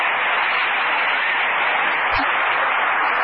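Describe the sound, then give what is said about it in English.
A crowd applauds the contestants of a talent contest, measured by an applause meter: a dense, even wash of many hands clapping at once that holds at a constant loudness throughout, with no voices rising above it. “All right, Colonel, now what does the applause meter show?”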